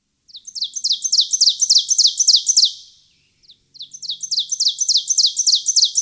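An ovenbird sings two bouts of rapidly repeated, high, ringing two-note phrases. Each bout grows louder as it goes, with a short pause between them and no voices.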